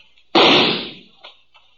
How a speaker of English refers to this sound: He was just a shadow partway up the canyon wall, maybe 30, 40 feet. His gunfire gave me a pretty good notion where to aim.